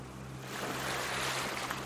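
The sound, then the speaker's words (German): Waves wash onto Whitehaven Beach, a beach of white sand with very shallow, crystal-clear water, in a broad, hissing surge that swells after a quiet start and stays full, with a low steady hum underneath and no voices. “Und dich erwartet ein kleines Mittagessen direkt an diesem malerischen Strand. Willkommen am Whitehaven Beach.”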